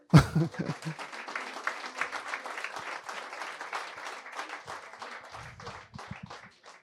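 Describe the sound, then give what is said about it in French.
An audience applauds steadily for several seconds as a guest is invited to join the speaker, a dense patter of many hands clapping that gradually thins out, with a brief low murmur of voices near the end. “que j'invite à me rejoindre sous vos applaudissements.”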